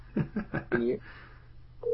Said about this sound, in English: Yeah, he is number one. And he's calling my phone. How about that?